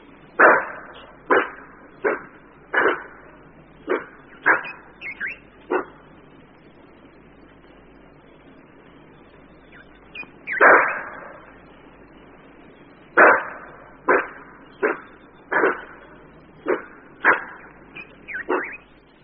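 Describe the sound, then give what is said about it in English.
A bushbuck gives loud, sharp alarm barks warning of danger, a steady series of about eight, then a pause before another rapid run of barks resumes, with no voices. “The bushbuck's alarm call is a loud bark.”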